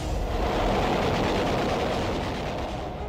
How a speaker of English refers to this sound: land-based planes attempting to silence U.S. fleet bombardment of Okinawa. A plane in a low-level attack.